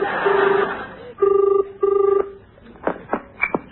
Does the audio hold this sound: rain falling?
no